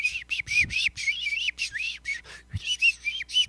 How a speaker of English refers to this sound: And whoever wrote that episode or whoever directed that episode, with that camera pulled back and got up in the trees, and you could hear the birds all up in the trees.